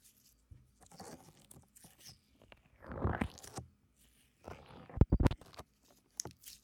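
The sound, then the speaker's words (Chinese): Soft, basic foam slime in four colors, not sticky and with no borax water added yet, being squished and pressed, giving wet, crackly squelches in irregular bursts, with a louder cluster of pops and crunches toward the end; no one speaks. “你们晓得吧，就是最普通的那种起泡胶的那种，听听好几个颜色的，四个，就是最普通的那种起泡胶，更像小孩玩的水晶泥。”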